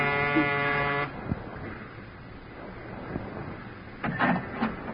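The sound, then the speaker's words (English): The door buzzer of a ground-floor apartment in a narrow gray row house is pushed. It sounds one steady, harsh electric buzz for about a second, then cuts off, followed by quiet shuffling and a few soft clicks. “I smelled domestic trouble, but I pushed the buzzer anyway.”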